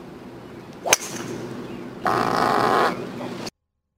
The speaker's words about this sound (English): I'm watching the golf, and this is what I heard on one of the holes. You get that. Yeah, you heard a drive. The ball hit the driver. The driver hit the ball. And then you heard Englishman Ian Poulter fart.